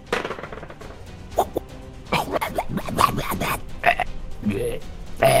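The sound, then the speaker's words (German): A series of short, guttural burps croak out, irregular and loud, mixed with other brief throaty vocal noises and clicks. “Rülpst nicht so komisch an mir vorbei, das ist ja eklig.”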